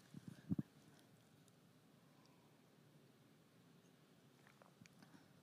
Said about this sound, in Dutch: Ik neem even een slok water.